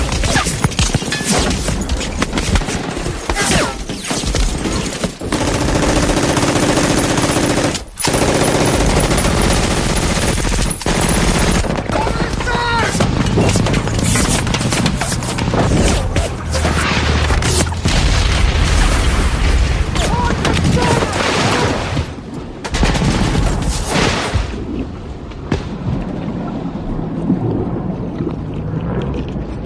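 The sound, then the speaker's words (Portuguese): A war film's beach landing: relentless machine-gun fire and sharp gunshots layered over heavy booming explosions and a low churning rumble of boats and surf, loud and dense for the whole stretch. “Edição de som nesse desembarque e nessa sequência é tão maravilhosa que quando o pessoal pula do barco, que eles nossa.”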